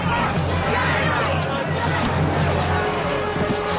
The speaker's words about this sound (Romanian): Iar aceste zgomote și strigăte aparțin unei mulțimi de câteva sute bune de oameni din Praga înșelați, victime ale celei mai mari farse din istoria recentă a Cehiei.